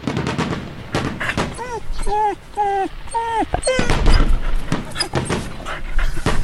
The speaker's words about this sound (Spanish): Para los animales, cada estallido de pólvora es terror y a veces la muerte.